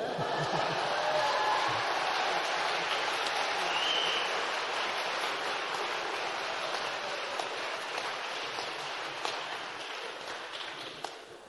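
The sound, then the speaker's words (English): A crowd at a graduation ceremony applauds a graduating student, a dense and even crackle of many hands clapping at once that holds for about ten seconds before easing slightly toward the end. “The rest of you can applaud if you wish.”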